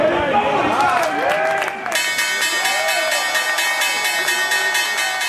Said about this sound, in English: Harlem Globetrotter Big Easy Lofton is pressing the button that rings the bell. With his other hand, he's spinning a ball on his index finger. Lofton's supposed to ring the opening bell for 10 seconds.